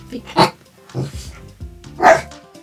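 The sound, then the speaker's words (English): A dog named Carrot barks, two loud, sharp barks spaced well apart with a softer, shorter bark or huff in between, and nothing else around them. “Additional music by Sean Rial, with barking by Carrot Riddle Rial.”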